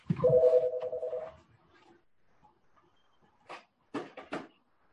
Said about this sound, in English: I'm going to pick up the phone. Excuse me for a second.